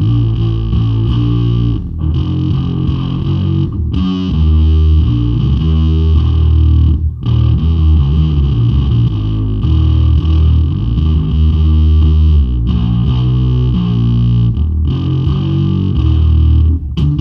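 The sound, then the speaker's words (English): A distorted, heavily compressed synth bass tone plays a loud, gritty riff with thick low end and an even, squashed level, pausing briefly between phrases. No voices are heard. “It's got some low end, so like it's very synthy, kind of very compressed sounding.”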